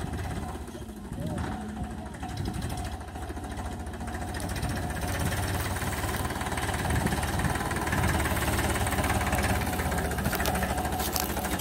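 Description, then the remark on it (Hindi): A tractor pulling a trolley loaded with about 57 to 58 quintals of sugarcane bound for the mill idles steadily, its low, chugging rumble holding constant for the whole stretch, with indistinct voices faintly mixed in the background. “ये देखिए दोस्तों भले ही ट्रॉली मिल में जाने के लिए लेट हो रही हो, लेकिन ये जो है काफ़ी जो है इस मोमेंट का लुफ्ट उठाते हुए, इस ट्रॉली में मेरे हिसाब से जो है 57 अट्ठावन कुंटल गन्ने हैं,”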